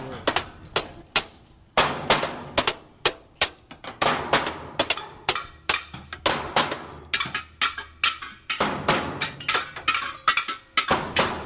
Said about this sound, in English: This looks like it's the bang on everything jam. The bang on anything you can possibly bang on, including washing machines. We've got the canister mint. We've got an upside down plastic something strapped around one of the players.